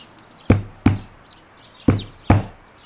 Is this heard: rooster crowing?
no